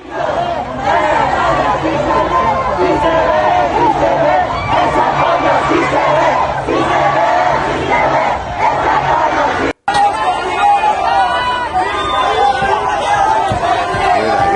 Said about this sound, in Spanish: A ver, escuchemos parte de los gritos.